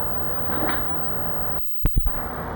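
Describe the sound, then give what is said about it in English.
A steady rushing background noise abruptly cuts out, followed by two sharp knocks like a door latch clunking as the back porch door opens, with a brief rumble after. “back porch door open?”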